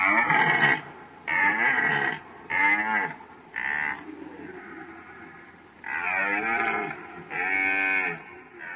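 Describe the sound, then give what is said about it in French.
A red deer stag in the rut bellows repeatedly, a string of loud, deep, groaning roars following one another in quick succession, with no one talking. “Les cerfs en rut attirent par leur chant les biches pendant toute la nuit.”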